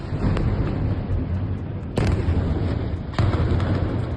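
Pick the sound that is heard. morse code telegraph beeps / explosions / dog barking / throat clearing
explosions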